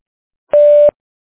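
A single steady electronic beep from a Google voicemail line, loud and clean, lasting under half a second with silence before and after, the tone that signals recording has begun.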